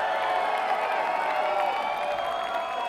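crowd screaming and cheering

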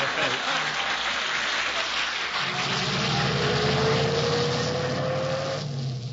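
car driving away

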